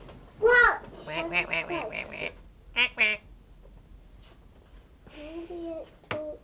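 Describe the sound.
A person imitates a duck, giving a rapid run of nasal quacks, then a quick pair, then a single longer quack after a pause.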